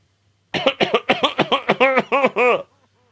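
cough

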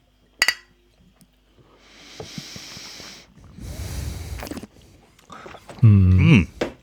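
glasses clinking

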